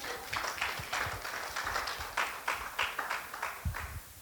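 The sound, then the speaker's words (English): An audience claps steadily for a few seconds, a busy patter of sharp hand claps running together without a strict beat, with no voices over it. “You can clap. That's you can keep that up.”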